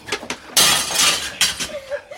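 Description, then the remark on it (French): A windowpane shatters in a loud, bright crash, preceded by a couple of sharp knocks, with scattered tinkling shards trailing off afterward. “Azelma, vite, casse un carreau!”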